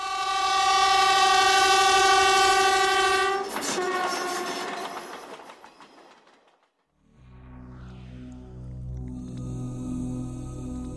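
A train horn blares loudly for a few seconds as a train rushes past with a rumbling roar that fades away, followed by a brief silence and a low, steady mechanical hum.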